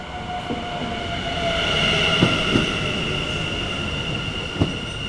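A train rolls steadily past at Muiderpoort railway station, a continuous rumbling roar with a faint metallic squeal overhead and a few sharp clanks from the wheels. No one speaks.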